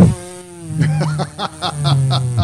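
A plastic ketchup bottle, as ketchup is sprayed all over eggs, lets out a farting sputter: a low, buzzy rasp punctuated by a quick series of wet, spluttering bursts, loud and alone for a couple of seconds.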